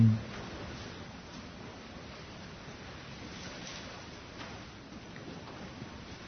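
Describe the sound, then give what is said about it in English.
Steady, soft rain falls on an evening at the Vyagiri Monastery, hissing evenly throughout, a continuous wash of fine patter with no voices and no distinct individual drops standing out. “I'd like to begin by welcoming everyone who's gathered this evening, this rainy night in the Vyagiri Monastery.”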